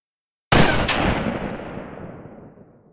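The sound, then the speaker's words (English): A single loud rifle shot cracks out after a brief silence, followed by a quick echo and a long rumbling decay that fades over a couple of seconds. No voices. A man shoots a wild deer near a farm by a river. “I saw a white man take a big stick and point it at the deer. Why? Suddenly, I heard a loud bang.”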